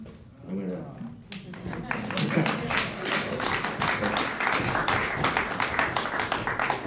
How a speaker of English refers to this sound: I will convey those applause to you.